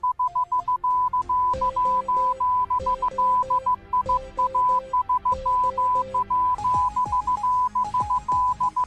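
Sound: morse code beeps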